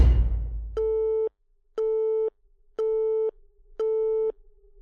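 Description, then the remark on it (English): A brief rustling clatter as a phone is picked up and the call is ended, then a telephone busy signal: four steady, mid-pitched electronic beeps, evenly spaced with equal gaps of silence. The beeps are loud and there is no talking. “He stopped short, and then I heard him pick up the phone, and then end the call.”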